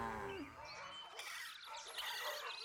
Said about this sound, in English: Cattle. Moo. Moo! That's quite a little bonnet you're wearing there, Mrs. Cow. Moo, moo, moo! Cattle, check.